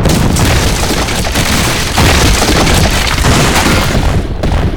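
Buried explosive charges blow apart an ancient stone bridge spanning two peaks. A powerful explosion booms, followed by a long, roaring rumble of crashing, splintering stone slabs that stays loud and dense for several seconds, with no voices.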